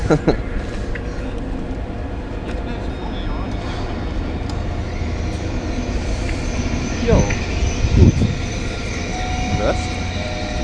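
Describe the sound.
A train pulls out of a station with a steady, heavy rumble and hiss, a few clanks and squeals rising near the end, and faint voices murmuring in the background.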